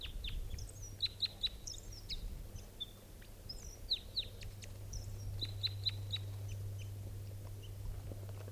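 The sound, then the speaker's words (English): A wild bird, number 387, calls in flight as it approaches a net, giving repeated sharp, high chips and short whistled notes in quick bursts over a steady low hum, with no talking. “So here's that bird. In flight, that was 387's wild bird.”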